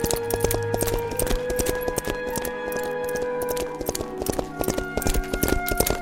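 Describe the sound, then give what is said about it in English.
A riderless horse gallops into a courtyard, its hooves beating out a quick, steady clip-clop rhythm, loud, with sustained musical tones running underneath throughout. “she saw her father's horse gallop into the courtyard without her father.”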